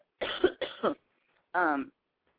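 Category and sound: human body sound, cough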